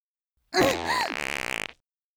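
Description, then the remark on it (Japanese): A loud, drawn-out fart by a woman after eating garlic steak, a bit over a second, starting with a sputtery blast and ending in a rapid flapping rattle before cutting off abruptly. “くっさーい爆音おならをいつ何時でもぶりっぷりにぶっこくことができるのです。”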